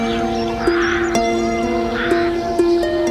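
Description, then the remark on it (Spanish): A crow caws loudly, a couple of harsh, raspy calls in quick succession with a short pause between them, with no voices and only a faint hum in the background. “Así pasó el tiempo, hasta que una noche fría cayó a sus pies un cuervo ciego.”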